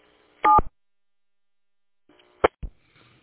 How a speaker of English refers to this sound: I see the other station managed to disconnect with the DTMF tones.